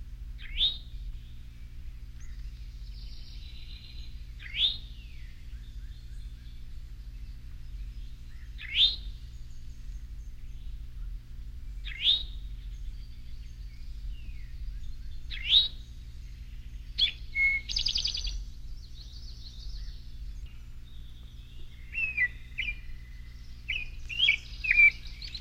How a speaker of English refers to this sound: The female towhee, as well as the female cardinal, does not sing, but does call. Here is the towhee's call.